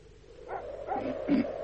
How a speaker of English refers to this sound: You're that blooming dog. Something must have disturbed him.